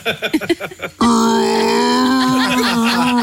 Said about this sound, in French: Ce n'est pas un dinosaure. Jean-Yves Le Drian a bâillé en regardant un discours de sa remplaçante Catherine Vautrin.